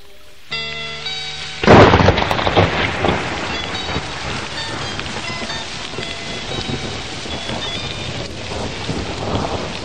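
A sharp, loud thunderclap following a flash of lightning bursts out and rumbles away while steady heavy rain pours down throughout, dense, with no voices.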